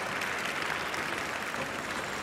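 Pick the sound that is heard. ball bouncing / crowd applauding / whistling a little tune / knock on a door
crowd applauding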